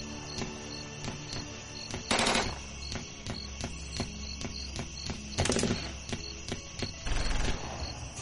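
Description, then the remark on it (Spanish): Soldiers' rifle fire crackles steadily in rapid, repeated shots, with two soldiers kneeling and firing toward the listener, broken by three louder bursts of heavier gunfire, while a high insect-like chirping drones in the background. No one speaks. “el que te ha disparado se pone a cubierto y llega un oficial que empieza a gritar órdenes mientras otros dos soldados se ponen de rodillas y disparan hacia donde tú estás.”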